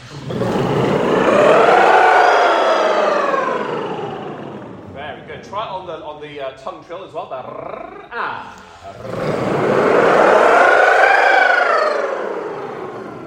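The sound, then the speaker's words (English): A voice imitates a wailing fire alarm siren during a singing warm-up, using a trill to slide up through the vocal range and down to the very bottom in a long, loud glide, then a short stretch of spoken words before a second rising-and-falling sweep. “If we get this right, it'll sound like a fire alarm and everybody else will leave the building.”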